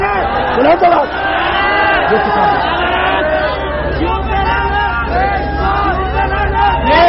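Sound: crowd chanting religious slogans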